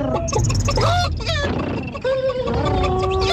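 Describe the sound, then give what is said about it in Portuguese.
Several voices of listeners, in audio recordings sent in to the radio show Toque de Saída, mimic animals at once, layering growling roars, piggy grunts and high whistled bird-like chirps into a loud, dense, overlapping chorus of imitations. “Porque não está a par, isto tudo pessoas que enviaram áudios a imitar animais.”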